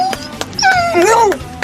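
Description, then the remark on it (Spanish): A dog lets out high-pitched whimpers and a quick rising-and-falling yip in one short burst lasting under two seconds, with no one speaking. “su perro solidario, Nublo. Él da las gracias, pero de la siguiente forma”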